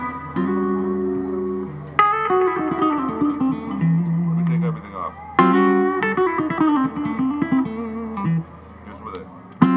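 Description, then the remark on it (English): Clean electric guitar played through an effects pedal with its built-in distortion control not used, strummed chords and ringing notes with sharp attacks, fairly loud, with no talking over it. “Can we hear a little bit of that? Sure. Here's without it.”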